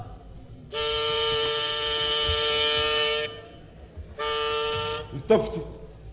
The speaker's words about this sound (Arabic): التفتي. يلا صاحب الزمور. التفتي. التفتي.